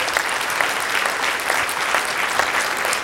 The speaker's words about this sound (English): Come on, applaud what that is all about.